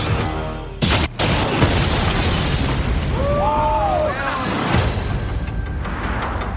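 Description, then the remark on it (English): A building explosion as a DEA safe house is blown up: a sharp, heavy blast gives way to a long roaring rumble with crackling debris, brief wavering tones rising mid-way, and a second thump before the noise thins out. “The building that you blew up is a DEA safe house.”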